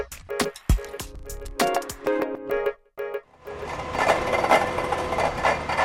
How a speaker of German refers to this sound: hier wird nicht gewaschen, hier wird gebohrt. Wir sind Zeuge einer Bohrung ins Erdinnere